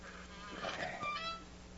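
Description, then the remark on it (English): A heavy bank vault door, unlocked by its combination, swings open with a drawn-out, grinding metallic creak lasting about a second, moderately loud over a low steady hum. “Now, to swing the door open.”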